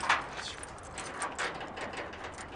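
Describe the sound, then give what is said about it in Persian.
Keys jingle and clink in a loose, irregular shuffle as someone sorts through a bunch looking for the right key to open a door, with bright metallic chinks scattered over a few seconds and no talking. “اون کلید معلومه که نمیخوره. چرا دارم پیدایش میکنم؟ مگه نمیدونی کدامه؟ لابو دست کلید اشتباه آوردی.”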